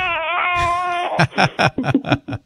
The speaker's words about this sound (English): That's my infant in my arms crying.